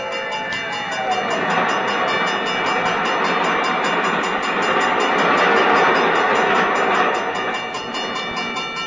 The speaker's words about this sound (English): There's the bell. Huh? What's that, my dear? There's a train coming.